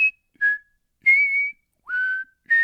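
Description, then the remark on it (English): A man from Central Pennsylvania whistles the old Rice Krispies cereal commercial jingle, a short, bouncy tune of five clear notes with brief pauses between them, some notes held and gently bending in pitch, with no one talking. “made his foray into whistling as a first grader”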